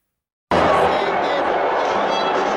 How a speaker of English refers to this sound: In a stinging rebuke, Texas Republican Senator John Cornyn booed at his own party's convention in his home state.